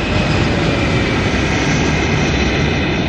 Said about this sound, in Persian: این هواپیما که استفاده میکنیم یه فالکون 50ه که ما از شیشه کاملا شیشه مقابلمون استفاده میکنیم. حالا این سمت پروازمون هم به سمت هلال گرفتیم. میایم از تهران که بلند میشیم ایشالله، میریم روی قائم شهر.